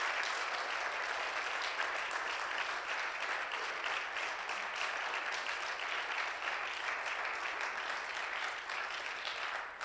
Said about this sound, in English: Why don't you applaud our eldest mother here this morning?